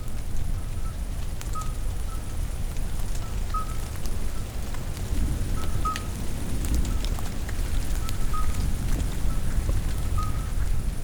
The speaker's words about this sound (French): C'est la fin de l'orage. Et le bal du chant des crapauds.